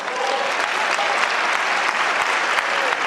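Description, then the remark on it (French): Sustained, dense applause in the French parliament for Prime Minister Sébastien Lecornu, loud and steady with countless overlapping claps and no pause, echoing slightly. “Sébastien Lecornu, très applaudi, qui appelle la France insoumise à faire le ménage.”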